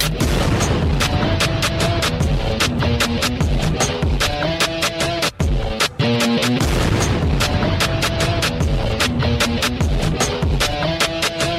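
Loud, dense intro music punctuated by a steady series of booming, explosion-like blasts hitting every half second or so, with a brief break midway before the barrage resumes.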